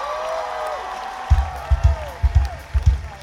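An audience at a concert camp-out on Mayo Island applauds the opening band with a steady wash of crowd noise and rising, sliding whoops. From midway, a run of low, heavy thumps lands in a loose rhythm. No one speaks.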